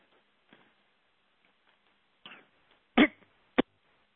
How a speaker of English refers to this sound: Excuse me, I had to cough.